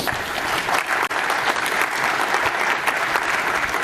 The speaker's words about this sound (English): Another round of applause, please.